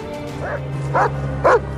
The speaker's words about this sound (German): Plötzlich flitzt der Hund ins Gebüsch und schlägt an. Er hat etwas gefunden.